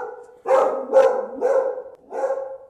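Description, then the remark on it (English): A dog barks four times in a steady, evenly spaced sequence, each bark loud and full, with short silent gaps between them and no other sounds or voices. “When the dog barks, you know something's going on.”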